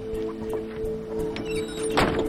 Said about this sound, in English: She opens the door and enters.